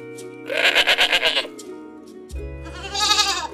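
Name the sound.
goats bleating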